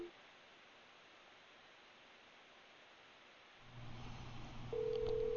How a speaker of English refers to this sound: It is ringing. One ringy dingy. One ringy dingy.